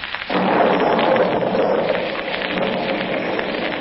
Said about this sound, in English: As our story opens today, a heavy thunderstorm is gradually diminishing.